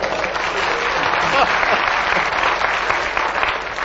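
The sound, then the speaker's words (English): A crowd of people claps steadily for several seconds in a round of applause for the chair, a dense, even wash of applause at moderate loudness with no clear pauses, and faint voices murmuring underneath. “Can we have a round of applause for the chair?”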